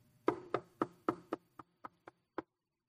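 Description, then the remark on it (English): Nine sharp knocks on a wooden door, struck in a quick steady rhythm that gradually softens toward the end, with no voices. “Suppose we hear that on that door.”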